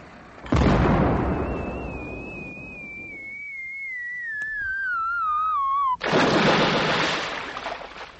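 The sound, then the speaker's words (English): A cannon salute fired as two fleets pass in review: a loud cannon blast booms and rumbles, followed by a long, slowly falling whistle, then a second heavy blast that rolls on and gradually fades. No talking. “The order was for cheers and a salute of cannon.”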